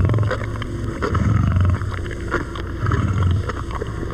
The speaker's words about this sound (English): And this is what Dad sounds like. A grown male Maasai lion growls over his daily meal, a 15-pound chunk of raw meat. Listen closely and you can hear his huge teeth ripping through the meat.